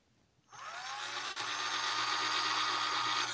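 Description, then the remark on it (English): A power saw starts up after a moment of quiet and runs steadily with a loud, harsh whine and a low motor hum beneath, briefly dipping once before continuing at full strength. “Do you have a saw to massacre people in your bedroom?”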